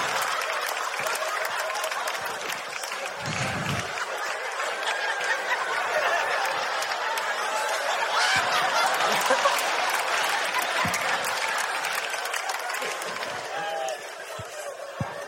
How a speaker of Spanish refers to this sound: Un aplauso para ellos.